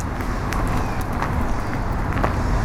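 A steady low roar of road traffic crossing a bridge, with faint scattered clicks and rattles layered over the continuous wash of passing vehicles.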